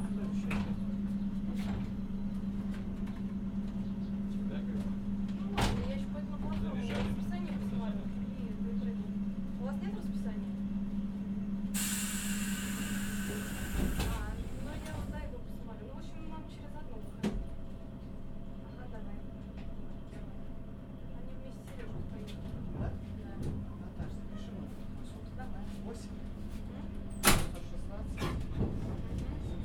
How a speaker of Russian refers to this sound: Следующая остановка Щербинка. Осторожно, двери закрываются.